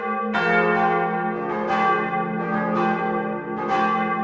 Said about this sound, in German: Morgen läuten Kirchenglocken fürs Klima. Für den Klimastreik wird ja mit dem Hashtag Alle fürs Klima geworben. Da gehören die Kirchen dazu.